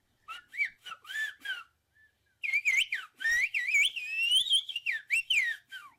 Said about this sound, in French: D'ailleurs, je vous propose de finir sur une phrase d'un des bergers qui va vous dire, toujours en sifflant, J'ai appris tout ça de mes grands-parents et j'aimerais bien que mes enfants l'apprennent aussi. Écoutez.